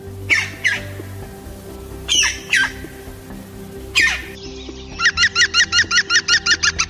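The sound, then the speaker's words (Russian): A rare, brightly plumaged green woodpecker gives a few harsh, squawking calls, then breaks into a rapid, even series of about a dozen loud, laughing notes, with no talk. “А вот как поет, например, отличающееся яркой окраской оперения редкий зеленый дятел.”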